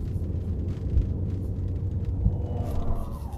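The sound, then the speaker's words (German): A steady, low rumble fills the inside of a moving car in a driving video game, a constant droning road and engine noise with faint higher hiss and no voices. “Wir haben eine Fliege im Auto.”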